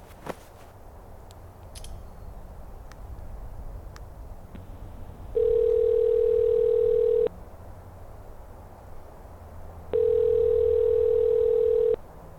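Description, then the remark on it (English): Two long, steady telephone tones of an outgoing call, made from Brighton Rock, a high spot near a highway, each about two seconds, separated by a pause, playing over a low rumbling background with no one talking. “it made the perfect spot to call Gene by phone”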